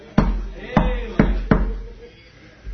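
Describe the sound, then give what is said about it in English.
Four firm, distinct knocks on a door, coming slightly quicker toward the end, over a low rumble. “Then he knocked on my door.”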